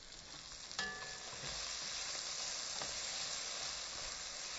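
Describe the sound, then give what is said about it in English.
Steady, crackling sizzle of chicken pieces and a whole chicken thigh frying in a pan on the stove, a continuous bright hiss with a brief clatter near the start, with no one talking. “All right, I can hear my chicken over there really starting to sizzle.”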